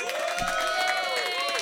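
A crowd at the show «Три кота» (Three Cats) cheers and applauds, with sustained, wavering whoops rising over a steady patter of clapping. The noise stays loud and continuous from start to finish.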